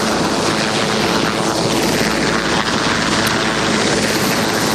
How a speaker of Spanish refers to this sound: Los helicópteros sobrevuelan de vez en cuando una ciudad que tiene casi marcado a fuego la neutralidad y el equilibrio.